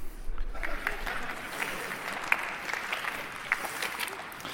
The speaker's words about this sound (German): Das heißt, auspfeifen oder buhen, das finden wir nicht cool, im Zweifelsfall klatscht nur ganz wenig und jetzt nochmal mit Husten bitte.